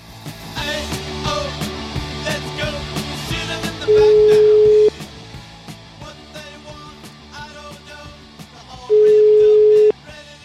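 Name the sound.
phone ringing tone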